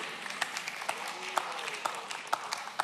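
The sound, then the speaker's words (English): Sparse, scattered hand claps from an audience, a dozen or so sharp snaps at uneven intervals over a soft murmuring crowd background, fairly quiet overall with no one speaking clearly. “Yeah, thank you for the one clap.”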